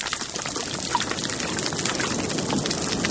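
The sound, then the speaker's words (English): Dense, steady crackling and popping from 11 species of fish on a living coral reef, countless tiny clicks blending into a continuous fizzing hiss with no pauses and no voices. “This kind of crackling sound. All different fish signatures.”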